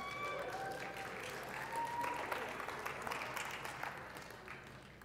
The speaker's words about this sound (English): Let's have a cheer this morning for our Las Vegas Golden Knights. You ready?